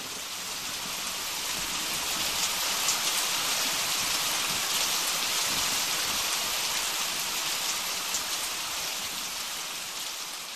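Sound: heavy rain falling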